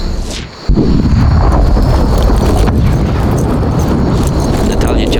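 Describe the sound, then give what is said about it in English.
A sudden heavy blast breaks in after a brief quieter moment, followed by a continuous loud, low rumbling roar that holds steady for several seconds, like explosions echoing and booming on: an armored personnel carrier blowing up as a fragmentation bomb and destroying a second identical vehicle. “Whatever had happened, from the sound of the explosions,”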